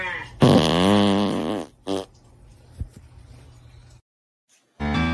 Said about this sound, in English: It's no fart heard around the world, but it's a good one.